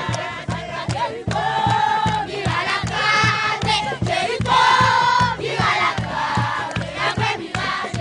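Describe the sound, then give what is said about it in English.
Women and children standing in a circle in a homeless encampment in the Haitian capital chant a song praising Joshua's victory in Jericho, their high voices loud and sustained in unison over a steady, pulsing rhythmic beat that runs throughout. “Women and children form a circle chanting praise for Joshua's victory in Jericho.”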